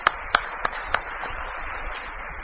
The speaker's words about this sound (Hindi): तो मैं सबसे पहले आप लोगों को बोलना चाहता हूं, और एक बार अपने लिए ताली बजाइए कि आप लोगों ने ये इंडस्ट्री बनाई है.